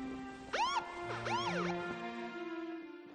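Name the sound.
police siren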